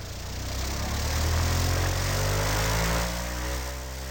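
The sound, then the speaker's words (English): A loud airboat, propelled by a jet engine, roars steadily over the grassy waters of the Everglades in Florida, its low droning hum shifting slightly in pitch as it runs, with no voices over it. “But the experience most come for is the breezy, open-air thrill of flying over the Everglades' grassy waters in a boat propelled by a jet engine, an airboat.”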